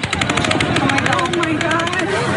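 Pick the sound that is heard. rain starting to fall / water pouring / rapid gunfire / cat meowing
rapid gunfire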